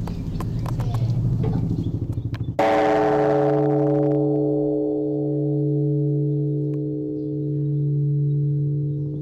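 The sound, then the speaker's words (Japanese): After a few seconds of rustling and clatter, a large temple good-luck bell (kaiun no kane), which anyone may strike at any time while making a wish, is struck once, leaving a deep, loud humming tone that rings on with slow, wavering pulses. “さあ、それではいつでもついていいという開運の鐘をついてみたいと思います。”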